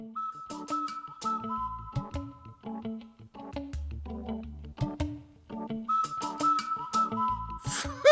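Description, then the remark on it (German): A whistle imitates a cuckoo's call, sounding short tonal notes again and again in a steady, bouncing rhythm, fairly clear, with no voices. “Mit einer Pfeife, das kann ja jeder!”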